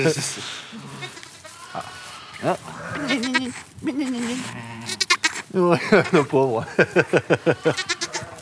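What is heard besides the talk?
lamb bleating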